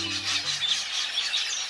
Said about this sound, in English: In Africa, south of the Sahara, there's a bird that roams the countryside in flocks, hordes really, of 2 million or more. They fly in such tightly synchronized masses, they can be mistaken at a distance for clouds of smoke.